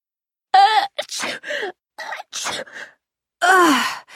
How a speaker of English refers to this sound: Excuse me. Bless you. Thanks. Ugh, these allergies are so annoying. You all must be tired of saying bless you. No, that's all right. But isn't it funny how we automatically do that when someone sneezes?